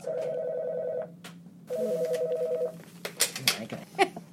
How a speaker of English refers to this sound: Okay, so you just unplugged somebody's phone.